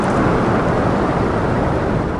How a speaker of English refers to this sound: It lasted for a total of 80 seconds. And in that time, you hear a very sudden, rapid acceleration of the tagged animal. You can actually hear the individual fluke beats as the flow noise on the tag.